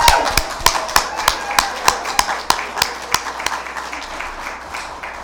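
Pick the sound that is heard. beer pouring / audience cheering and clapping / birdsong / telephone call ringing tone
audience cheering and clapping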